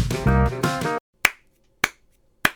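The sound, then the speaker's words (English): A brief, sustained tonal sound ends, then three slow, evenly spaced claps ring out alone: a sparse, unenthusiastic golf clap with crisp, sharp hits. “I'm getting a golf clap.”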